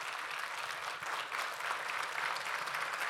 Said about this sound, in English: And I think that we should give this hero that's with us today just a round of applause and our praises.